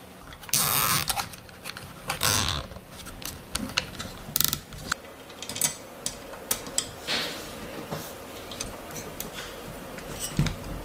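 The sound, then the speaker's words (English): A zip tie is pulled tight to attach a part to a small chassis, with a run of sharp ratcheting clicks in quick, uneven bursts, some louder snaps among them, with no voices. “So this will be attached with a zip tie and it will work totally fine.”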